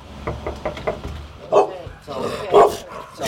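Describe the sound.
Dogs, the little Daisy and Rosie, a pit bull mix, bark in sharp, loud bursts, two strong barks standing out over a background of quieter voices and shuffling, with some knocking-like thuds early on.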